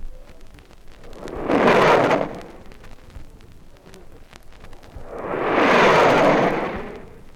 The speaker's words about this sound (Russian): Самолет ПО-2 специально подняли в воздух наши друзья-летчики для того, чтобы сделать сравнение. Слушайте внимательно.